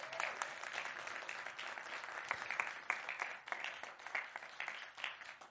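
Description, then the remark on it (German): Audience applause, a dense, steady wash of many hands clapping at once, sustained at an even loudness for several seconds with no voices rising above it. “Aber sie sind sehr spontan und haben das heute Morgen übernommen und ich finde, das hat Applaus verdient.”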